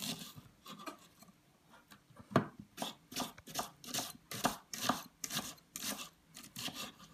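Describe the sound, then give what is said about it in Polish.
A knife slices an onion into thin strips on a cutting board, producing a steady series of crisp cuts roughly every half second, with no talking. “Do tego bierzemy cebulkę. Nie robię małej kostry, tylko cieniutkie paseczki, żebyśmy to smażyli na patelni.”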